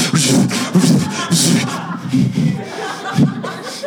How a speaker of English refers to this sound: And all of a sudden you hear some digging and sawing up there.